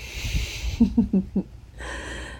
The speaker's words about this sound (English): Oh, baby, you're breathing heavy.